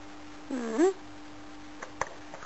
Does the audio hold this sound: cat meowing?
yes